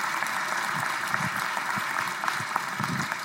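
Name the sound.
audience round of applause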